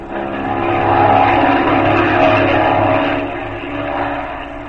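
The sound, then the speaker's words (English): A World War I propeller airplane engine roars loudly and close as the plane swoops down, its droning buzz swelling quickly, holding steady, then easing slightly as it passes by. No one speaks. “The third plane roared close, and swooping down like a wrathful spirit, the young Frenchman fired one shot.”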